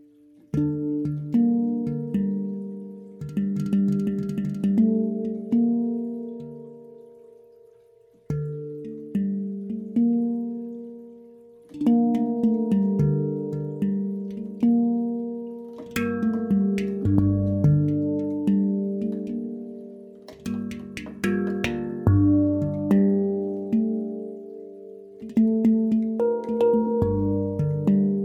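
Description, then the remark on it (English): A handpan plays a slow, flowing melody of resonant, ringing notes that bloom and sustain, with overlapping tones and occasional brighter struck accents. No voices. “Close your eyes, and as the handpan plays, breathe deeply, letting each vibration of 444 Hz and each note of the solfeggio sacred frequencies resonate with your inner being.”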